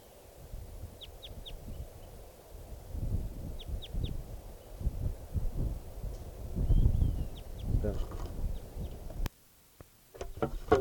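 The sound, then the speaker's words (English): A wild bird calling from the top of a dead tree gives short, high, thin call notes in quick clusters of two or three, repeated a few times over a steady low rumble of wind-like noise; no one speaks. “And calling from the top of a dead tree, and I'm trying to test birds 599 and 600.”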